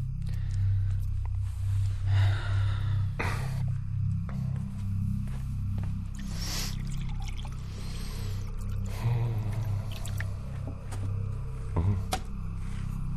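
Water pours into a glass in short bursts, its gurgling pitch rising as the glass fills, set against a steady low room hum with a few small clinks and rustles.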